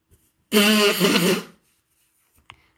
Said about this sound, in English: Sorry, I'm just going to blow my nose, all right?